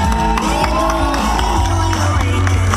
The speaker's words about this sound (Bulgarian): Не знам как да изрази с думи това, което аз в момента чувствам, дано всички да мислиме. Дайте аплодисменти!